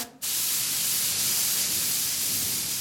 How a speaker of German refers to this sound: Daraus mischt sie die Farbe, die genau zum ursprünglichen Dekor passt. Großflächig sprüht sie sie auf.